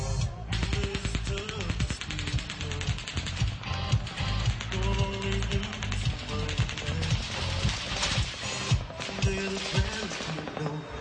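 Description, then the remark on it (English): Rapid automatic gunfire crackles in a long, sustained stream of fast, sharp pops that barely pause, staying loud and dense throughout, over a steady tonal hum in the background. “Machine gun fire, possibly from an automatic weapon, erupting into a crowd of thousands of fans.”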